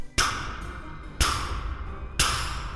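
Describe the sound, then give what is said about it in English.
Three loud, evenly spaced knocks on a front door, about a second apart, each a sharp hit with a short ringing tail. No voices are heard. “And just then I heard a knock at the front door.”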